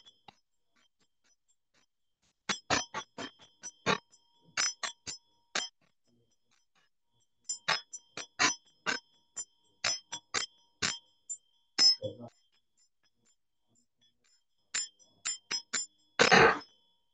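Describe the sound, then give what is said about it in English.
A Buddhist ritual bell is rung in quick bursts as part of a mudra used when the Vajrasattva mantra is recited, producing bright, metallic clinks in irregular clusters separated by short pauses, with a louder, noisier jangle at the end. “Then the mudra that usually we use when Vajrasattva mantra was recited, so that is ringing the bell.”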